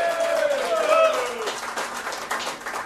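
An audience at a Chauncey's Great Outdoors show claps and cheers in a short burst of applause, with a bright whistle or high cheer rising over the noisy clapping at the start before it settles into steady patter.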